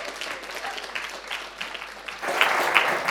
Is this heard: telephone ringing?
no